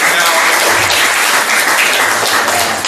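A crowd bursts into loud, sustained applause, many hands clapping at once in a dense, steady wash of sound that holds for a few seconds without any talking.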